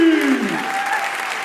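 A crowd applauds with steady, dense clapping, a continuous wash of hands that fades slightly toward the end, with a falling musical tone underneath at the start.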